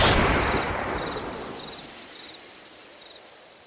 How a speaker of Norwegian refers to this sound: Der lå jeg, på posten min i skogen. Jeg ladet geværet mitt. Jeg pustet dypt inn. Så skjøt jeg.